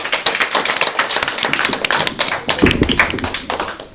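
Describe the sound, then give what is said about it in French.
At the end of a game, an audience applauds a school class team that scored 35 points, with dense, steady clapping that stays loud and even for the whole stretch, with many hands overlapping into a continuous patter and no voices over it. “On peut les applaudir!”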